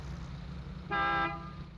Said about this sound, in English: A honk from behind.